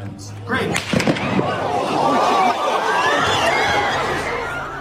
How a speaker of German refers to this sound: Und im Publikum ist nachher natürlich Panik ausgebrochen. Es ist schon viele haben nachher angefangen zu filmen. Man hat gesehen, wie sich Leute am Boden geworfen haben.